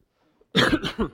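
A fairly loud cough from a preacher during a sermon erupts after a brief silence, a harsh burst followed by a second rougher hack, with no talking around it.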